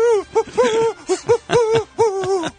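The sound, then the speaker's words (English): A person's voice mimics an owl, giving a quick run of wavering hoots in close succession, loud, with no other talking. “doing an owl impression for 20 minutes.”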